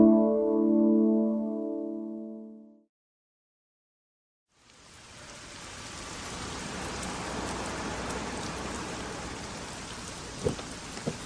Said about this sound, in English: It's pouring out there.